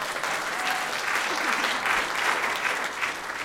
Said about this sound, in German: Danke schön. Ja, Applaus.